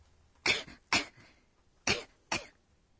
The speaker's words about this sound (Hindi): इस तरह की हल्की खांसी के लिए शब्द है कोंग कोंग.